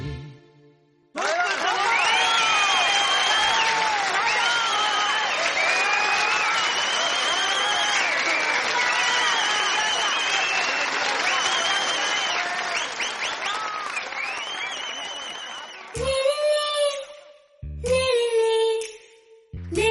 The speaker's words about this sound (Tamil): நீங்கள் ரசிக்க நாங்கள் இசைக்க கைத்தட்டியே பாட்டு சொல்லுங்களே. உங்கள் கைத்தட்டல் போல் இல்லை செல்வங்களே.